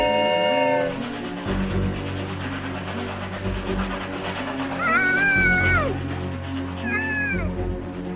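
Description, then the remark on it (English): A train rumbles steadily along the tracks after a short horn blast at the start, its low clatter filling the scene while a cat meows twice over the noise. “She's on the train tracks!”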